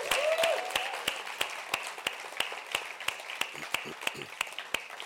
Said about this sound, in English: I don't think was here this morning, but I want you to clap these guys anyway. Do that.